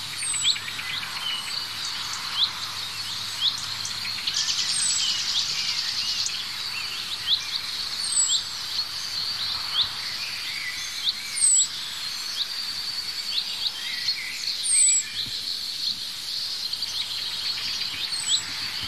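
Outdoor birdsong scene with scattered short alarm-like chucks and thin, high-pitched calls, repeated irregularly over a steady buzzing insect chorus; no voices.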